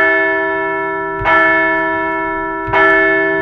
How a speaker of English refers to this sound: We're going to ring the bell, and we are on to San Diego.